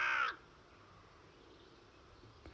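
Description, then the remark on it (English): A carrion crow gives one loud, harsh caw right at the start, then the call cuts off into quiet outdoor background for the rest. “Carrion crows make big nests out of twigs, rags, bones, and anything else they find.”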